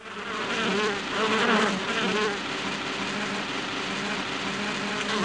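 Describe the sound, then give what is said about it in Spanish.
A steady swarm of bees buzzing, a dense droning hum with wavering tones that swells slightly early on and then holds constant throughout, with no voices. “Es sabido que 3/4 partes de los cultivos en el planeta dependen de polinizadores como las abejas para que crezcan las plantas.”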